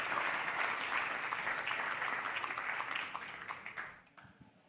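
A crowd applauds steadily, a dense wash of many hands clapping at once, holding strong for a few seconds before thinning out and fading toward the end.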